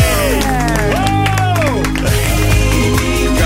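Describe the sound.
A crowd applauds and cheers steadily, dense clapping filling the whole stretch while excited whoops and shouting voices rise and fall over it.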